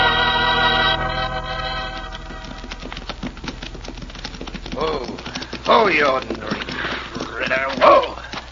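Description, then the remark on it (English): Horse hooves clip-clop in a quick, steady clatter of sharp knocks, with a tonal wail at the start and loud shouting voices rising over the hoofbeats toward the end. “You, Bully, get down off that horse.”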